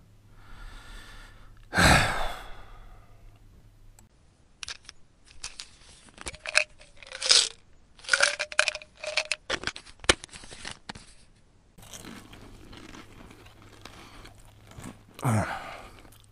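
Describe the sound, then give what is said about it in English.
Crisp crunching as pills are chewed, a rapid irregular series of clicks and cracks lasting several seconds, framed by loud breathy sighs before and after. “These things are absolutely disgusting when you chew them up, but man, they sure work a hell of a lot faster that way.”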